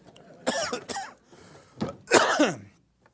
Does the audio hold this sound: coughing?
yes